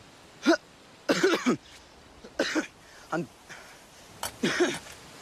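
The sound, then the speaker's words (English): A run of harsh, raspy coughs in uneven bursts, some single and some doubled, moderately loud, with short gasping pauses between them. “Her latest coughing fit really raised some concerns.”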